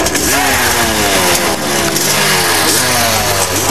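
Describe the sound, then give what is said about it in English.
A supercharged three-wheeler engine roars to life and revs hard, its loud, gritty drone repeatedly climbing and dipping in pitch for the whole few seconds, with no talking over it. “He's turning it on.”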